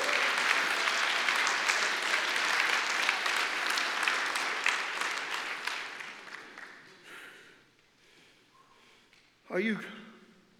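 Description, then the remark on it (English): An audience at a church worship service claps hands in a loud, dense burst of applause that carries on for several seconds, then gradually fades out, followed by a brief raised voice near the end. “Clap your hands under the heavens and bless him. Come on, clap.”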